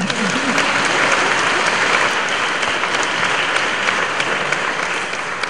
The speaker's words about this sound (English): So let us give a clap for him. Měli bychom zatleskat také jemu.